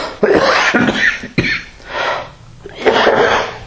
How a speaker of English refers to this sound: I think this cough is allergies because I'm coughing more now than I did when I had the COVID.